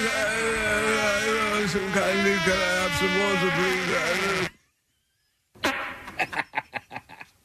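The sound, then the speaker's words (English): A long, loud, buzzy fart with a wavering pitch stretches for several seconds, then after a brief silence comes a quick run of short sputtering bursts that trail off. “Trying to cover up the sound of your fart?”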